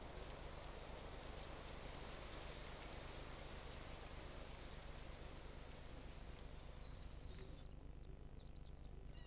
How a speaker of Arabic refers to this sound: تدفع الرياح بالغيوم إلى داخل الجزيرة فوق التلال والأودية، وبعدها فوق القمم الأعلى حيث يهطل المطر.